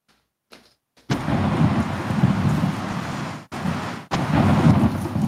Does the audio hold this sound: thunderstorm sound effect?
yes